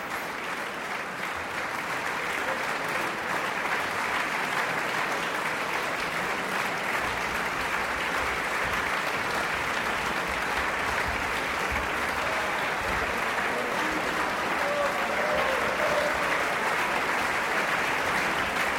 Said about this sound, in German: Bravo-Rufe hört man jetzt auch aus dem Publikum. Der finale Applaus hier aus der Halle bezieht sich natürlich auf das Ensemble Intercontemporain, das vier Stücke aus der Taufe gehoben hat.